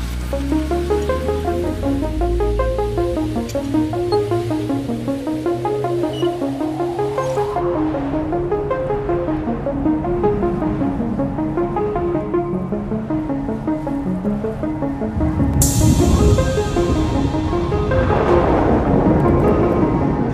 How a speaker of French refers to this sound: Le compte à rebours est lancé. 3, 2, 1, ignition.